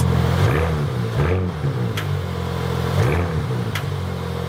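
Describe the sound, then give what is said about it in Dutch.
A powerful Porsche Panamera plug-in hybrid car, which also has a V6 engine, revs and accelerates, its pitch rising and falling in several surging sweeps, loud and steady with a few sharp clicks, and no voices. “Ja, Porsche heeft de plug-in hybride Panamera nog wat potenter gemaakt.”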